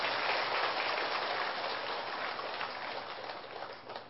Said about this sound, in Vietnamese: Thưa quý vị, cho một tràng pháo tay để tán dương mình đi.